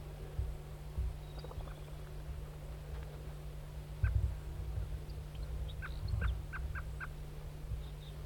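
A lone male wild turkey gobbles, a few rattling bursts clustered in the middle and later part, over a steady low mechanical hum with no talking.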